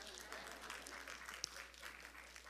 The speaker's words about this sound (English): And the women applaud.